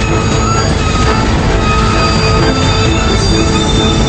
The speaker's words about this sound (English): The train slows to a stop, and two engineers climb out with flashlights.